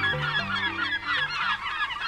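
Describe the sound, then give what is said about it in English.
An American herring gull's harsh, honking calls ring out repeatedly and loudly, overlapping in a noisy, continuous squabble that fills the whole moment, with no talking. “With white and gray feathers, a piercing stare, and noisy screams, the American herring gull is what most folks might call a seagull.”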